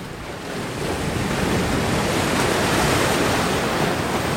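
nature, sea waves and wind

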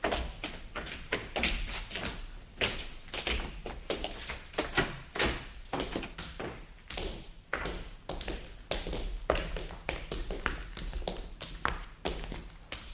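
household object, door being opened

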